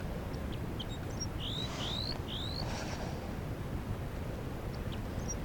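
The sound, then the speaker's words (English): Alarm calls of a newly captured female crossbill, caught in a net and held in the hand: three sharp, slurred high notes in quick succession, followed by a few faint chips, all over a steady low rumble of background noise. “That's the new captive getting alarm calls.”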